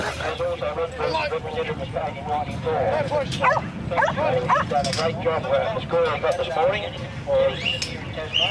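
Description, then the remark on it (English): Sheepdogs bark and yip repeatedly in quick, uneven bursts while moving sheep on farmland, over a steady outdoor background with what sounds like indistinct voices underneath. “… talks about moving sheep from farmland to farmland around here with his sheep dogs.”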